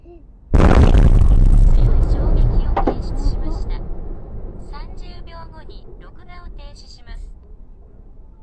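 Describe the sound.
A huge explosion caused by an earthquake bursts out suddenly and loudly, then a deep roaring rumble slowly fades over several seconds while faint voices or high tones come and go.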